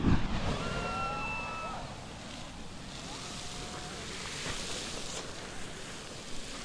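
A blast of hot water mist sprays with a steady, rushing hiss, strongest at the start and continuing for several seconds, with wind-like roar underneath.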